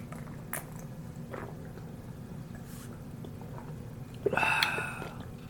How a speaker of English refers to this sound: And I used a cherry as my chaser. I just, like, swallowed all of it with the cherry and then bit the cherry.